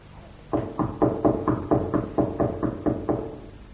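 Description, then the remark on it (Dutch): Knocking on a door bolted from the inside: about a dozen steady, evenly spaced knocks, fairly loud and hollow-sounding, rapping for roughly three seconds with no voices. “Nou, laten we nog eens kloppen.”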